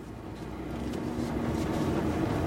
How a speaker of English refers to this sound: Back in the truck and further along, Newsom negotiates deeply rutted sandy roads and the ash.